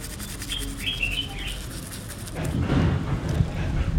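Birds chirp over a quiet outdoor background in a garden, then a toothbrush dipped in baking soda starts scrubbing the teeth of Musse, a dog lying on a bed with his head held still, a rough, irregular bristly rubbing that grows louder and continues to the end.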